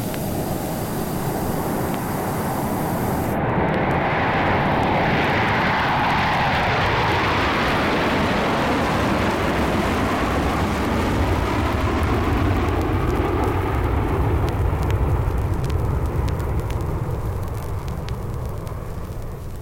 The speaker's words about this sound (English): Join me at the airport for a jet flight.